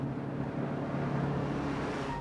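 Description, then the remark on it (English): A bus drives steadily along a winding road, its engine giving a continuous low rumble with a droning hum beneath broad road noise. The level stays even throughout, and no one speaks. “The bus drives along a winding road.”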